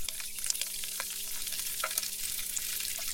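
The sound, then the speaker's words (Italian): About 300 grams of guanciale, diced into cubes that are not small, frying in a pan over medium-low heat and stirred now and then, a steady dense crackle and hiss with scattered sharper pops, continuous and fairly quiet, with a faint low hum underneath and no voices. “300 grammi per 4, fiamma medio-bassa e lo giri ogni tanto.”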